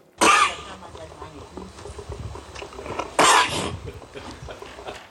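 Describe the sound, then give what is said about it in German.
A horse coughs twice, each a loud, harsh, breathy burst, with a second cough arriving about three seconds after the first and quieter rustling and snorting in between. “Und kann sich dementsprechend nur noch um folgende Auflösung handeln. Ein Pferd.”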